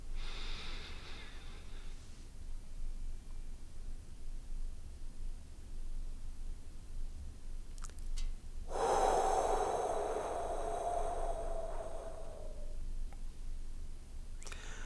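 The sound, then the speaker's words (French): Deliberate 4-7-8 breathing exercise with no talking: a brief inhale at the start, a long quiet hold of the breath for a count of seven, then a loud, drawn-out exhale through the mouth for a count of eight, with a slight whistle that fades away. “Répétez encore 3 fois de suite cette respiration en 4-7-8.”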